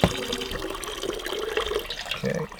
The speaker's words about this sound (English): We have running water. It's probably fine to drink, but we're just playing it safe with...